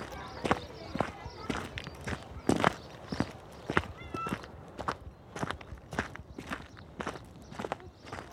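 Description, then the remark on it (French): Steady footsteps crunch along a dirt path, a regular walking rhythm of moderately loud steps continuing throughout with light outdoor ambience. “Tu vois, ici, là, on est en train de marcher sur le chemin de terre.”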